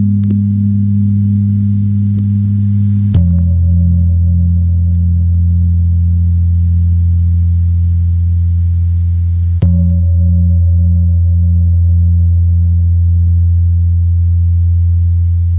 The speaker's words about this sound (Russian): Прозвучала пара индонезийских гонгов из оркестра «Гамелан». Совершенно фантастический оркестр и совершенно фантастический вид музицирования для европейцев.